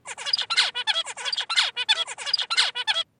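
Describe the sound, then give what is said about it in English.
A recorded tutor birdsong, the song that all the birds in a song-learning experiment heard, rings out in a rapid, continuous run of bright, high-pitched syllables, rhythmic trills and sweeping chirps repeating for about three seconds before stopping abruptly. No voices are heard. “So this golden tutor that we're going to listen is the song that all of the birds heard.”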